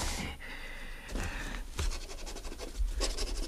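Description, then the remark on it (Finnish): A pen scratches across paper in quick, uneven strokes, fairly soft, with short pauses between bursts of writing and no voices. “Niin, kynää ja paperia.”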